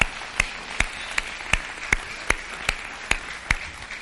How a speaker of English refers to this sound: We would not be able to have a successful ministry without y'all and the hard work, dedication, sacrifice that you three have put in. And so can we just give them a round of applause and encouragement?